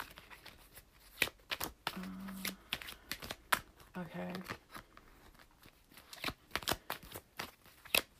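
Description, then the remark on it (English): A deck of cards being shuffled, with a steady run of crisp snaps and riffling clicks throughout. A voice briefly speaks once amid the shuffling. “Okay, I'm shuffling again, so you can make another wish right now.”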